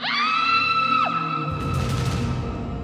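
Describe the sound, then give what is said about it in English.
A loud, sustained high-pitched scream in a forest slides downward in pitch, then gives way to a rough, noisy rush of sound with no talking. “Rama and Lakshmana looked up at the sound of a scream.”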